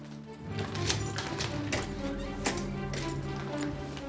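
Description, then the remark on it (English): Keys taken from an evidence bag jingle and a lock clicks as a door off a hallway in a block of flats is unlocked and opened, a few sharp metallic taps spaced out over a low, steady background hum. “Frost reaches into an evidence bag Toulon offers and pulls out a set of keys, which he uses to open a door off the hallway.”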